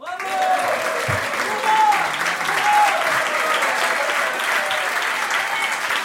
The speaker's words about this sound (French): Bravo ! Applaudissements. Embrassades.